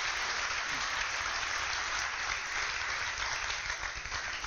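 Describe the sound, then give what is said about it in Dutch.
An audience at the University of Twente in Enschede applauds Iceman Wim Hof, a dense, steady wash of clapping that holds at an even, loud level throughout, with no voices rising above it. “Dames en heren, mag ik een warm applaus voor IJsman Wim Hof.”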